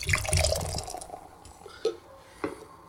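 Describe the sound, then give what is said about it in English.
Beer of 5.7% ABV glugs and splashes into a glass in a brief pour, then settles into fizzing with a couple of soft drips. No one speaks. “I forgot to pour me a glass.”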